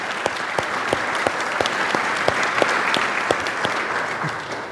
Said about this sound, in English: Yeah, we can clap for that for her too.